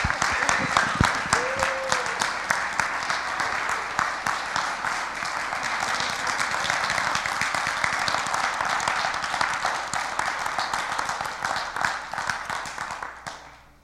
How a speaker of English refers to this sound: You can give your applause because I'm going to.